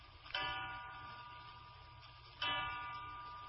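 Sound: clock striking three o'clock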